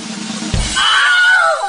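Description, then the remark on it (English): A short, shrill Wilhelm scream sound effect that wails and then falls in pitch, heard alone just after a dull thump, loud. “can we put in some sort of drum roll effect or a Wilhelm scream or something like that?”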